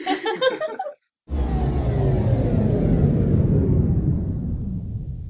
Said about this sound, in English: Well, that'll be the storm knocking out our power.